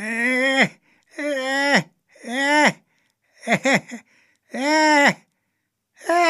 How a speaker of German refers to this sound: Als Benjamin und Otto am Haus von Herrn Tierlieb vorbeikamen, hörten sie ein sonderbares Husten und Krächzen.